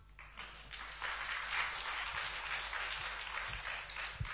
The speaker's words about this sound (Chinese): 感谢各位掌声鼓励啊！